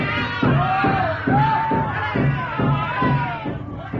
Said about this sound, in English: And when last seen, our good friends from the Poll Parrot, in their search for Captain Dalton, have been surrounded by these same savages. Amid the shouts of the savages, Mr. Grange speaks.